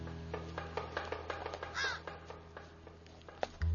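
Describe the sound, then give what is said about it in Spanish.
A hungry crow caws repeatedly in short, harsh bursts at an uneven pace by a roadside embankment where a turtle is about to lay her eggs, over a low steady background hum. No one speaks. “Un cuervo hambriento la está esperando.”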